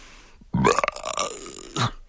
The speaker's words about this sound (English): I say, how dare you belch in front of my wife? Squeaked Lord Portly.